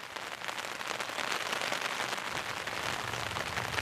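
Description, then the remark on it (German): Steady morning rain patters on a hard surface, a dense, continuous hiss of many small drops at even loudness throughout, with no voices. “Das ist halt genau der Sound, den man irgendwie morgens nicht hören möchte, wenn man aufwacht.”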